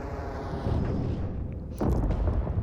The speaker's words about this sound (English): And what was that? That was nothing to do with me. I mean, it sounded like an explosion.